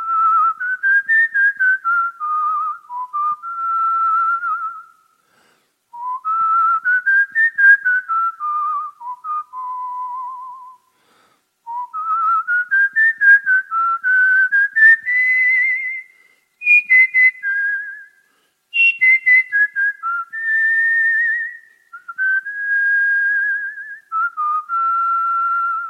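A clear melody whistled solo in flowing phrases with brief pauses between them, the pitch gliding and trilling expressively, with no voices.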